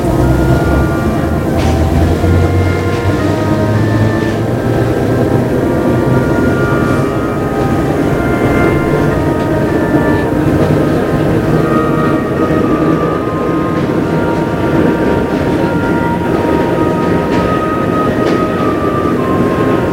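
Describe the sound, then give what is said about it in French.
A metro train rumbles steadily while riding, with constant low droning and rattling, a few tonal whines and squeals, loud throughout, no talking. “Après le car, le métro.”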